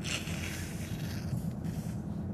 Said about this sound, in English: I have to blow my nose again.